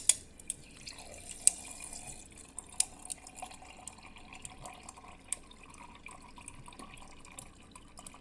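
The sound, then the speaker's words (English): Quiet water trickling from a tap into a glass, with a few sharp drips and clinks scattered through it, steady, with no voices. “If you like to have a glass of water by the bed, make sure you've got one.”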